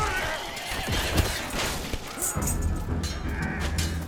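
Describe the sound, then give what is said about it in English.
Horses whinny and neigh amid a dense, chaotic battle din of crashes, clattering and low rumbling as horses and soldiers charge into a bristling spear formation and are skewered, loud and continuous throughout, with no clear talking. “There are bloody screams as the sharp spears, bristling outwards like a hedgehog's spines, rip into soft flesh, and horses and soldiers are skewered like kebabs.”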